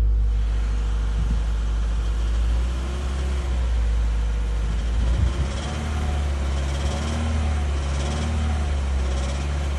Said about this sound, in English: Yesterday, my car started knocking. Is that actually knocking? Yeah. Really? Could you hear it?